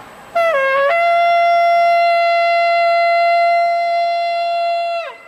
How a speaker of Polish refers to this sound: Pole Maryi ożyło wiwatami, aż do przejmującego dźwięku jakby rogu, który przeszedł w znaną melodię Ave Maria.